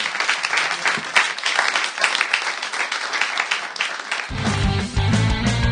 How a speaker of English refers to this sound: I think that's the end of that round. A round of applause for that round, ladies and gentlemen.